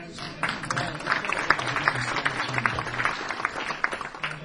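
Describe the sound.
A crowd applauds steadily, a dense wash of many hands clapping at once with faint voices mixed in, starting abruptly and holding at a fairly constant level.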